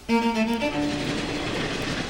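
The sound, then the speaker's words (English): A train rolls along the rails with a steady, broad rumble, opening with a brief tonal horn-like blast that fades after the first second. No voices are heard. “In 1891, my great-grandaunt Grace, her mother, and two brothers took a week-long train trip from Boston to Oakland.”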